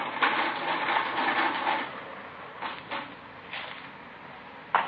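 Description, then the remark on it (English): An adding machine grinds through a sustained mechanical whir and clatter, followed by a few separate sharp clunks as the handle is pulled, ending with one louder clack. “I got the figures on the machine.”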